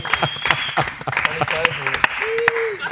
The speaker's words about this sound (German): Also an der Stelle ein Riesenapplaus an die Deutschen Meister 2019.